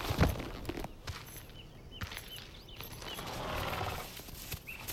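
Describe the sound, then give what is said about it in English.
A horse's hooves clip-clop slowly in an uneven walking rhythm as it is ridden up to a house, with a brief whinny and soft snorts mixed in against a quiet outdoor background. “I rode up to it, dismounted and tied off my horse.”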